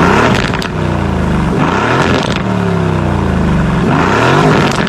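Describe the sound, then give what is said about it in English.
A 4-liter twin-turbo V8 car engine of about 503 horsepower, in sport mode, revs repeatedly, its pitch sweeping up and down in several loud bursts with a deep, throaty rumble and no talking. “Yeah, we'll throw a couple revs at it real quick.”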